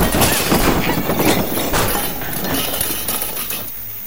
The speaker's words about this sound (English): She hits me. My back hits a pile of junk. The junk hits back.